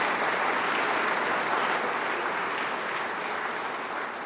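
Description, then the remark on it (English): Steady, dense audience applause for Oregon State University's work testing wave power sites fills the whole stretch, a broad even wash of many hands clapping at a fairly loud level with no talking over it, easing off only slightly at the end. “Let's give them a big round of applause for the work they're doing.”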